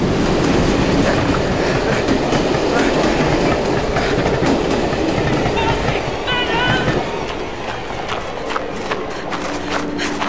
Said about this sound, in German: Er versucht, das Gleis zu überqueren! Aber da kommt doch ein Zug!